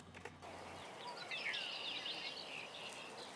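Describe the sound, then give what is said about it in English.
Calls of a swamp sparrow and red-winged blackbird along a forest walking trail, a few thin chirps and trills rising over a soft outdoor hiss, with no voices. “As we venture on our way through the children's forest about another 350 feet to the next set of benches, we may hear the calls of the swamp sparrow and the red-winged blackbird singing the sweet melodies of nature.”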